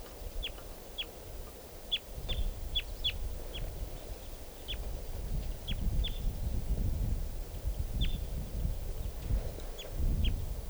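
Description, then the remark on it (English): Three crossbills, at 11:45 in a tree above a car, give a series of short, sharp, high kip notes, about a dozen, irregularly spaced and sometimes paired, over a steady low rumble of background noise. “Here's a crossbill. Three crossbills there.”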